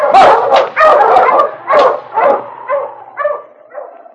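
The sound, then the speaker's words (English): A pack of sled dogs barks and yips excitedly as the team sets off, in a rapid series of loud, overlapping calls, gradually growing fainter as the team moves away. “Now let's go. Mush!”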